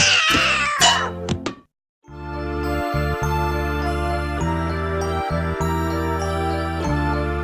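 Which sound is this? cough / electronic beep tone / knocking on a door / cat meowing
cat meowing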